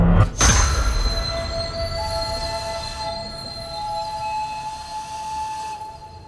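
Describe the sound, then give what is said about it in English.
A steam train on a line in Kent, past Headcorn, brakes hard as the driver slams on the brakes. Its wheels screech along the rails with a sustained high metallic squeal over a heavy rumble, while the driver blows a long engine whistle throughout, loud. “The driver slams on the brakes and blows the engine's whistle as the train screeches along the rails.”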